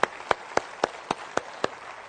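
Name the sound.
audience applauding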